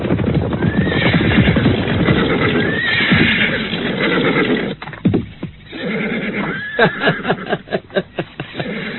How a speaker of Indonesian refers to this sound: Kawan-kawan, ada seekor kuda di sini.